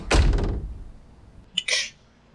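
A door swings shut with a heavy, booming thud, followed about a second later by a brief, sharper metallic click and rattle, like a latch catching.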